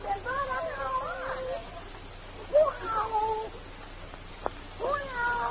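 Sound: cat meowing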